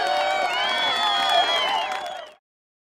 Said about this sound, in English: The children screamed and cheered and clapped and whooped.